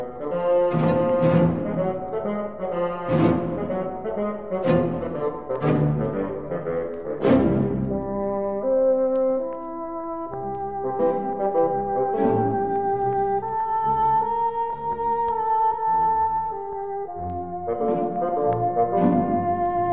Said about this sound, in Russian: Фагот – самый крупный инструмент группы деревянных. Он звучит ниже остальных.